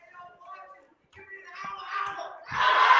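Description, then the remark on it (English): A basketball crowd of fans cheers during the third quarter of a game as a player shoots free throws, starting with scattered voices and shouts, then swelling into a loud, dense roar over the final half-second. “Crowd getting into it a bit.”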